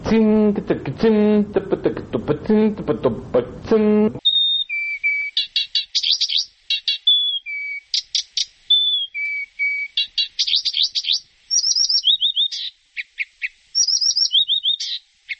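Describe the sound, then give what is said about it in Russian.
A reed warbler sings, opening with a few seconds of lower, harsh rhythmic notes, then moving into high whistled phrases and quick repeated trills with a jerky, percussive rhythm. “Камышовка. Очень интересная птичка. Такие трели. Такая ритмика.”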